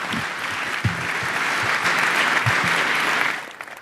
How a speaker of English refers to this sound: Yes, an applause for each other, come on.